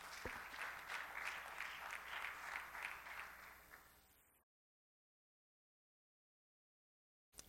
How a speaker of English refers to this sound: If you clap your hands, you may be seated.